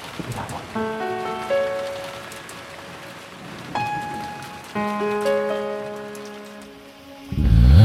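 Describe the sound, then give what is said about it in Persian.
A steady patter of light drizzle runs throughout beneath sustained, melodic musical tones, ending with a louder, rougher burst of sound in the final moments. “من تنها و بارون، من تنها با عشقت توی نم نم بارون، هنوز صدای بارون تو رو یادم میاره”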